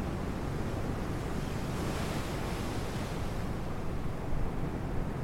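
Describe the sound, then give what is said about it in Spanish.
Steady roar of sea waves crashing and washing below a cliff at Yastres on the Asturian coast of Spain, at the foot of the Sierra del Sueve; a broad rushing surf with some wind noise, continuous and fairly loud with a slight swell near the end. No voices. “Como ya te habrás dado cuenta, Yastres se encuentra ubicado en uno de los parajes naturales más impresionantes de la costa asturiana, colgado en el acantilado sobre el mar y a los pies de la Sierra del Sueve.”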